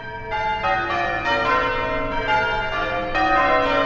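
A peal of church bells played by ringers in change ringing, ringing in a steady, tumbling sequence, strikes overlapping with rich lingering overtones, loud and resonant with no voices present.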